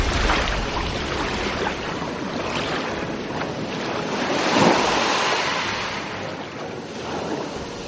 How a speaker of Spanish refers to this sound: Esas fisuras en forma de telaraña se extendieron y se ensancharon hasta que el agua salada emergió por ellas.